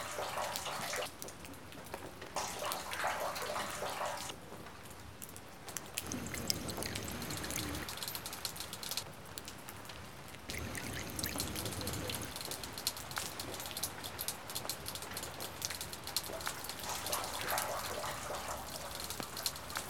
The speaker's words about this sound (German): kommt viel Wasser auf ein Kunststoffdach.